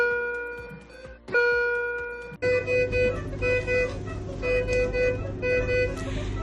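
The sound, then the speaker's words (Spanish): Hospital monitor alarms in an intensive care unit (ICU) beep in a steady, repeating pattern of high electronic tones, with one louder alarm tone starting partway through over a constant low hum of equipment. “Exacto, es el sonido que suele resonar en las UBIs, un sinfín de alarmas, pitidos agudos y ruidos estridentes que suenan día y noche.”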